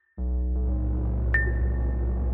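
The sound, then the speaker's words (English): A synthetic sine-wave sonification of solar eclipse data, rendered automatically sample by sample by simple code: a thin high tone, quickly joined by a loud, steady stack of low droning tones, with a brief rising blip partway through. No voices. “It makes a sine wave. So the idea is that it uses the data and renders the sound automatically.”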